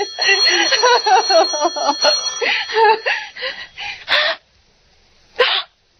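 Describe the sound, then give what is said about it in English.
A telephone bell rings in short bright bursts beneath a person talking, then a last brief ring sounds alone after a moment of silence. “Oh, let it ring. Let it go on ringing.”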